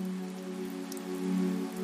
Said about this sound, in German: Es ist ein ganz leichter Regen, warm und einladend. Kein Sturm, sondern eher wie ein sanfter Vorhang aus Wasser, der die Welt um dich herum in einen ruhigen, friedlichen Dunst hüllt. Du hörst das leise Plätschern der Tropfen,